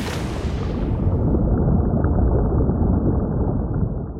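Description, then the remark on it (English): A dense, muffled underwater rumble of the ocean, starting briefly with brighter surface wash before sinking into a steady, low, enveloping roar with no voices. “The sound of the ocean, both on the surface and below.”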